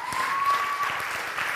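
A crowd claps steadily for a moment, a dense patter of many hands at moderate volume, with no voices over the applause.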